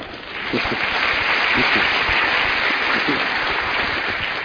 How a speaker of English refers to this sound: I don't want to make you applaud again, but don't you think that was a very beautiful introduction?